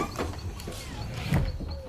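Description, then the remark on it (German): The rear door of a bus parked in a forest, opened by pressing a green button, opens with a rumbling mechanical whir and a sharp pneumatic hiss partway through, with no one talking. “Hier ist so ein grüner Knopf an der Hintertür. Ich drück mal drauf.”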